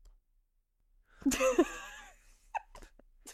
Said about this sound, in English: No, it was a sneeze.